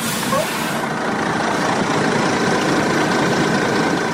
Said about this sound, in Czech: Autobus sa oko 80 migranata izbjeglih iz država Bliskog istoka zaustavlja se na oko 4 km od graničnog prelaza Horgoš.